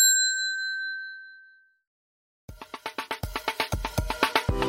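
A single clear bell ding rings out and slowly fades to silence, followed after a pause by a burst of rhythmic, bright instrumental music with sharp repeated hits.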